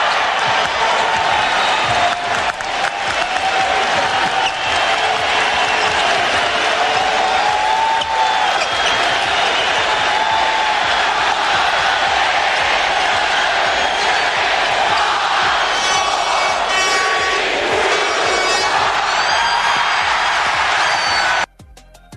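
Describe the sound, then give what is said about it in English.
A huge basketball arena crowd at the Forum roars continuously, celebrating the Lakers' 10th NBA championship, a 106-93 Game 6 win over the Celtics on June 14; a dense wall of cheering, whistles and shouts holds loud and steady for about twenty seconds before cutting off abruptly. “I want you to listen to the crowd. It's amazing.”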